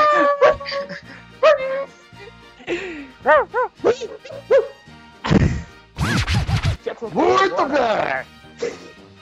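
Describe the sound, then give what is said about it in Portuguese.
A voice imitates Muttley, the cartoon dog, doing his wheezy snicker: fairly loud bursts of breathy, hissing laughter broken up by short yelping and whining sounds, repeating unevenly over several seconds. “É o Muttley. Que isso, velho?”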